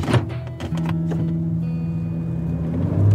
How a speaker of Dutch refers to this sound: In de auto, op de weg terug naar de redactie, zetten we meteen de recorder weer aan.